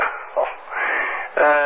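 A dog barks in short, loud bursts, with a higher yipping, whiny bark rising near the end of the short stretch.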